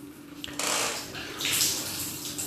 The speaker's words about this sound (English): You heard a little shower real quick. You know what I'm doing. I'm over here in the bathroom.